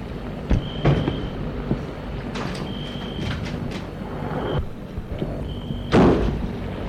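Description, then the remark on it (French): Metallic clicks and rattles as a woman takes keys from her bag and unlocks the entrance door of a house, with a few thin squeaks, then a heavier thump as the door swings open near the end. No voices. “cherche dans son sac les clés et ouvre la porte.”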